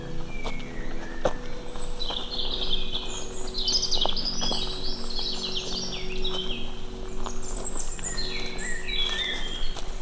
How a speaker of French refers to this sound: Et puis, c'est la bonne heure, là, les oiseaux. Chante dans la pénombre du soir qui commence à tomber.